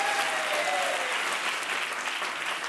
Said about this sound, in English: Clap it up for him.